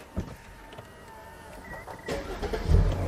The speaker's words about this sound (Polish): Zatem w tym momencie odpalam samochód.